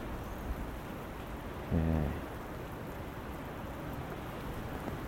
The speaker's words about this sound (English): So I'm guessing this is another storm, and I don't know whether we're on to E or F.